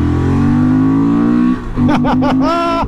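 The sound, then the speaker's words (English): A motorcycle engine idles with a steady low rumble, then revs up sharply in three or four quick throttle blips, rising and falling in pitch before holding a higher whine. Loud, with no talking. “Let's hear it growl.”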